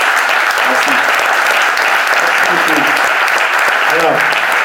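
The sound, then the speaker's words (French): An audience at an associative radio station event claps steadily and loudly throughout for the station's director, a dense wash of applause with a few voices faintly calling out underneath. “qui est là, parce que c'est aussi l'âme de cette radio, que je vous demande d'applaudir.”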